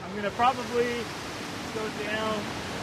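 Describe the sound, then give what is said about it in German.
Steady, full rushing of water roars onto the shore throughout, a dense wash with no breaks, while a voice talks over it in short bursts. “knapp über dem Punkt, wo das tosende Wasser ans Ufer rauscht”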